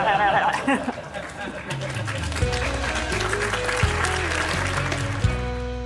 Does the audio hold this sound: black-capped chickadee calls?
no